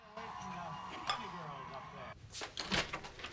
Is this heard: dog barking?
no